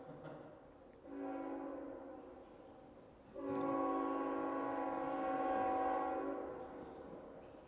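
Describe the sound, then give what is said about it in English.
A passing train sounds its horn in two sustained, chord-like blasts, a shorter one followed by a longer, louder one, with a low rumble underneath and no talking. “But the point is, let me wait on that train.”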